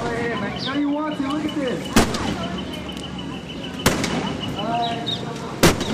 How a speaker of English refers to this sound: Yesterday, the Central Quad outside the Arkansas Union on the University of Arkansas campus was abuzz with chirping birds, chatting students, and the sound of a sledgehammer colliding with the already dented hood of an old, rusted LTD Crown Victoria.